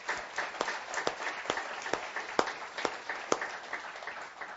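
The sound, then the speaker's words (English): A church audience applauds its senior adults steadily for several seconds, many hands clapping in a dense, continuous patter with a few sharper individual claps standing out. “And so can we clap for our senior adults for a second?”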